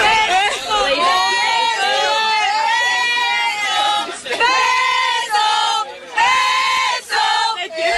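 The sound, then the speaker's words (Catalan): Football players on their team bus, celebrating their title, cheer and shout together in a loud, continuous ovation for Luis Rubiales as he appears, with overlapping high-pitched whoops and calls that briefly dip before rising again. “Després, encara eufòrica celebrant el títol, la gran majoria de les jugadores fa befa de la imatge del petó i, per últim, apareix Rubiales a l'autocar, ovacionat per les jugadores.”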